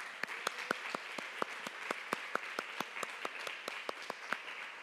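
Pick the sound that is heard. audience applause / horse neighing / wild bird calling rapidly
audience applause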